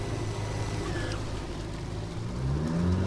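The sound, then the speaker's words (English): A motorboat on the Mississippi River south of La Crosse, Wisconsin, heading to the Kapolei Slough Habitat Restoration Project about 2 miles away, drones steadily, then its low rumble swells louder and climbs in pitch as the boat accelerates up onto plane. No voices are heard. “I'm going to pop up on plane here because we still got like 2 miles to go.”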